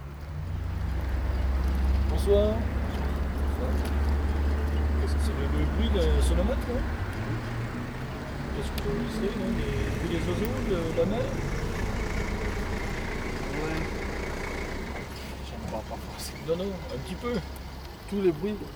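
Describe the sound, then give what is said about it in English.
Road traffic, recorded at 23:02 during a 24-hour traffic recording and count, rumbles as a loud, steady low engine drone in the first seconds that eases off, then continues faintly beneath people talking. “And this is 24 hours recording and traffic count.”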